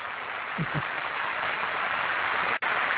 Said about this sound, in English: Do we have any applause on the song we could possibly play right now? We could just actually applaud.